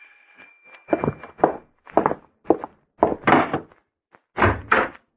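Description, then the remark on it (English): A series of hard, hollow knocks on a door at about 8 o'clock, about eight thuds in loose irregular clusters, fairly loud, with no voices, just a faint steady tone at the start. “That's funny. No one's at the door.”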